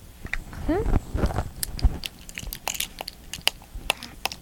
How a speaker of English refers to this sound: That sounds good. Yeah? You like this plastic food, huh? They're drooling all over their plastic food? Yeah? Look, see the sippy cup of orange juice? Yeah, you banging all three together?